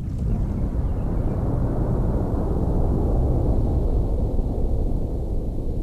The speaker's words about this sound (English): Some thunder. Almost 8 minutes. 330 meters a second. 150 kilometers.